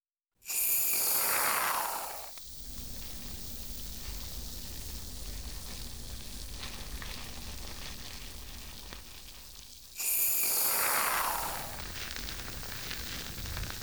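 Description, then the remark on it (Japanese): Shampoo foam fizzes and crackles in a steady, soft bubbling hiss, broken twice by loud, bright hissing bursts of foam being dispensed for a hair wash. No voices. “ほら、シュワシュワパチパチって音するでしょ。”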